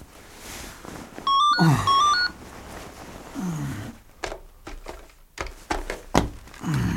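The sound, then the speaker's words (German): A brief, shrill electronic telephone ring at night, after eleven o'clock, jumps between high tones for about a second, set against low growling roars and dull thuds that come and go. “als Justus in der folgenden Nacht durch das Schrillen des Telefons aus seinen Träumen gerissen wurde”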